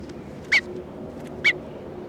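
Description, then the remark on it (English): Two short, sharp calls from bird 301 as it is being handled, about a second apart, each a bright rising-falling squawk, standing out over a steady low background hiss with no talking. “Bird 301 being handled.”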